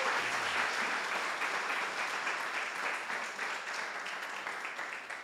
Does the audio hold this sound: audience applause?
yes